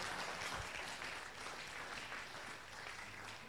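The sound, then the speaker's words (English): An audience claps steadily during a preacher's sermon, a dense, even wash of many hands applauding together at a fairly constant level for the whole stretch. “Why would you clap your hands?”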